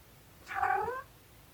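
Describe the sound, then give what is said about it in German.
A single drawn-out meow from the speaker's cat, fairly clear, rising then falling in pitch over about half a second against a quiet background. “Meine Katze kommt gerade dazu.”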